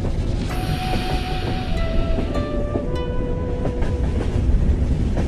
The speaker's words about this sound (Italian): I treni raccontano sempre qualcosa delle città in cui sono diretti. E questo vale anche per l'Eurocity 173 Ungaria, quello che mi porta da Berlino Centrale a Dresda, una mattina di metà ottobre.